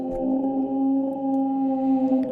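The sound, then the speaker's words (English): An eerie underwater creature call presented as that of an Elasmosaurus: a steady, droning tonal moan with layered harmonics, punctuated by a few faint, sparse clicks, continuous and fairly loud with no talking. “Oh, the clicking. It's the clicking that really gets me.”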